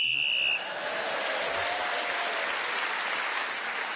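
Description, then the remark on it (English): A single shrill, high whistle blast lasting about half a second, blown to end a round of a panel game, quickly swallowed by loud, steady applause that continues to the end. “And so Clement, again speaking as the whistle went with other points in the round, has moved forward.”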